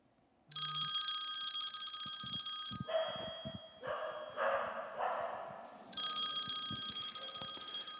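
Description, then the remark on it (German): A mobile phone rings loudly with a bright, buzzing electronic chime in two long bursts separated by a pause, a call from the grandmother, while a dog barks in the background throughout. “Das ist die Oma. Möchte jemand von euch mit ihr sprechen? Ja, ich will. Gib mir das Handy.”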